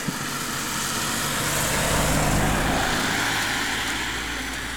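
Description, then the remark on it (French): A car passes by on the mountain road over the Col de Payère, its engine and tire noise swelling to a broad, steady rush at the midpoint before easing off, with no voices over it. “Ouais, même la voiture qui passe, et puisqu'on est sur la route du col de Payère.”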